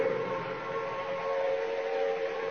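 An air raid siren wails steadily at Trafalgar Square, a sustained droning tone that holds level throughout with no voices over it.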